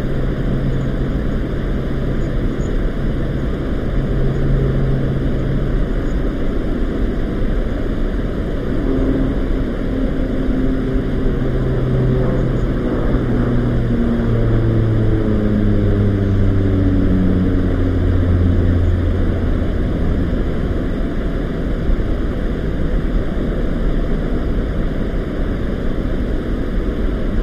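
A steady, droning airplane engine runs continuously, a loud low rumble with shifting tonal hums rising and falling slightly partway through, with no voices.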